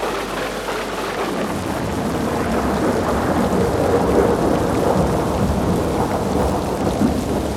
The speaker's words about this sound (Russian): Неожиданно пошел сильный дождь и залил шумную толпу.